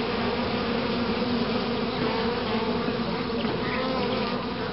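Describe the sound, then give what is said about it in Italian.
A dense, steady buzzing of many bees or wasps, like a busy hive, droning continuously at an even loudness with no voices throughout. “I menotteri sociali sono le vespe, i calabroni, le formiche, le api, i bombi.”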